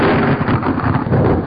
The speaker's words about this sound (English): It's the lightning round. Ironically, that was thunder.